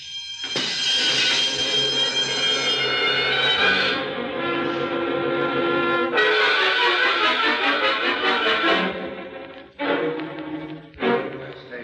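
A loud burglar alarm, set off by someone stepping on it, rings continuously with a harsh metallic clang, briefly changing tone a few times before ringing on, insistent throughout.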